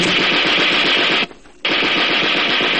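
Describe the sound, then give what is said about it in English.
Two loud bursts of rapid fire from a German soldier's burp gun submachine gun, each a dense rattle of shots, split by a brief silent pause of about a third of a second. No one speaks. “I caught a glimpse of the burp gun in his hand and dove for the ground.”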